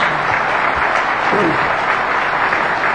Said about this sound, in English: All right, so with that, I'd like to get a round of applause for the audience.